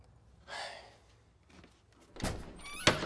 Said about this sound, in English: He approaches the door. He looks through the peephole. On the other side, Alberto smiles and waves. Salvador opens the door.